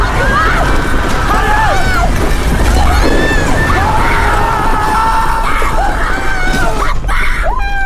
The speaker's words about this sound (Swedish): Folk reser sig. Och flyr i panik.